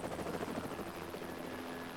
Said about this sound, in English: The helicopter flies off.